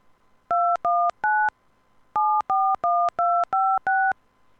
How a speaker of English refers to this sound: Please enter your home phone number, beginning with the area code.